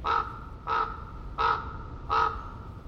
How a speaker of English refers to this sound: Prairie Creek, Redwoods State Park, an ancient forest. Fog lays heavy among the towering redwoods and hemlocks. A raven calls out.